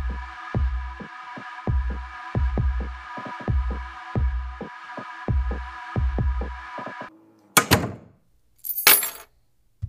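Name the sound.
keys jangling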